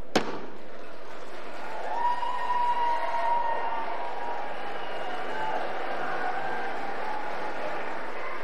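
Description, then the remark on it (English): A sharp bang is followed at once by a sustained wash of lawmakers cheering as a bill is passed by 427 votes to one, with rising whoops and shouts, many from Democrats on the left, blending into steady noise that continues evenly for several seconds. “You see a lot of Democrats over on the left cheering, while the Republicans on the right are rather hesitant to even engage.”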